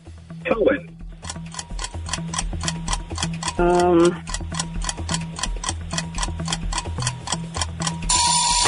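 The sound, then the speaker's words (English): A quiz countdown timer ticks quickly and steadily over a low pulsing backing track, with a brief warbling tone midway and a harsh burst of noise at the end. “Oh, there's the timer.”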